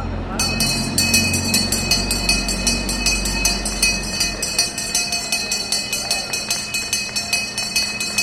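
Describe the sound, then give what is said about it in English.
A handbell rings over and over in quick, steady strokes to open a Sunday market under the FDR Drive in Lower Manhattan, its bright, high metallic tones sustaining throughout, while a low rumble and murmuring voices fill the background early on. “It's open Sundays through December, and I was told every good market opens with the sound of a bell.”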